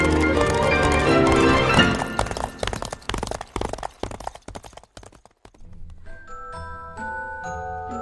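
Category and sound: animal, horse hooves galloping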